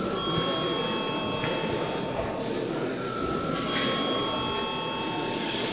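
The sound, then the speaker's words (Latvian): A parliament chamber bell rings before a vote on sending a bill amending the personal income tax law to the budget and finance committee, continuously for the whole clip, a steady, bright electric tone held without pause over a dense murmur of many voices in the chamber. “Lūdzu, zvanu.”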